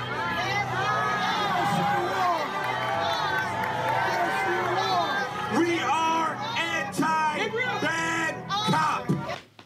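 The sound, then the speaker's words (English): A large crowd shouts, jeers and boos continuously at a male speaker, many voices overlapping into a loud, rowdy din with occasional louder yells rising above the noise. “So they're jeering him.”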